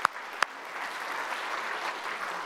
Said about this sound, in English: You've done a great job just standing there. Let's give him a clap as he takes his seat. Well done.